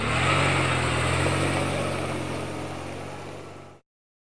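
A taxi's car engine runs steadily with a low droning hum and broad rumble, loud at first and gradually fading before cutting off abruptly near the end.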